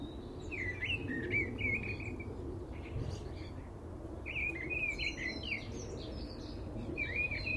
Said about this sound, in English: Yeah, that's a thrush. It's got to be. They're determining now whether it's a song thrush.